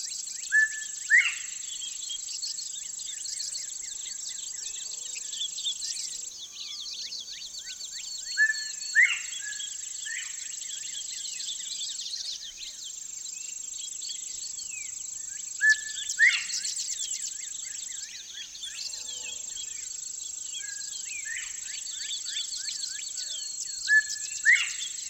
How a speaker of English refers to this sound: I walk down the trail into tall grasses. A cricket trills from underfoot, and northern bobwhites sound off from a swampy area at the bottom of the hill.